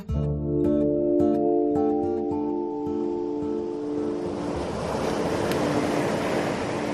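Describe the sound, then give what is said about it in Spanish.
A few seconds of sustained tonal music fade into a steady, loud wash of open sea waves and wind in the Mediterranean Sea, 2 kilometres off the coast of Oropesa, Castellón, Spain, a broad hissing roar with no voices. “Estamos a 2 kilómetros de la costa de Oropesa, en Castellón, en pleno mar Mediterráneo.”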